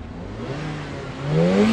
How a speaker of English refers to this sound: Revving up in the car park